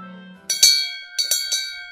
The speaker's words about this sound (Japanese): 一日の終わりの鐘が鳴ったので、僕はほっとしました。